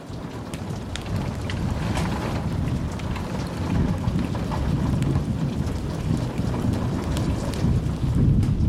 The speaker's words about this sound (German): Der Donner rollte über das Land. Ein tiefes, resonierendes Geräusch, das die Luft zum Vibrieren brachte.